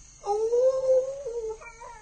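A jackal, Tabaqui from The Jungle Book, hunting at night, gives one long, drawn-out howl that slowly rises in pitch, then trails into a shorter wavering call. It sounds fairly loud, with no talking.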